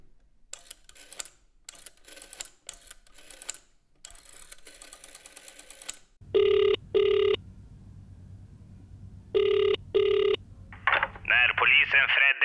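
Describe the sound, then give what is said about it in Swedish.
Quick mechanical clicks and tones like dialing, then a phone's ringback tone buzzes in two pairs of short bursts over a low hum, followed by a brief warbling chirp as the call connects. “Det är nog bäst att jag ringer upp den här jäveln direkt då.”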